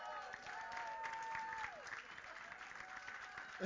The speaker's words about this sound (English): Please. Y'all don't even know what y'all clapping for yet. We're just glad. Well, they do deserve an applause because I believe this weekend y'all are celebrating 50 years in marriage.